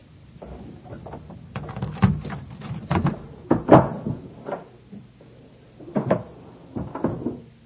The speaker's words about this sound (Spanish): abre la puerta de su casa y entra.